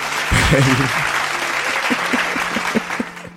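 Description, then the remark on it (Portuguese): Steady, dense applause fills the whole clip, with a brief voice or tonal sound over it near the start and a few short tonal blips later. “6 milhões, 6 milhões, aplausos para os 6 milhões.”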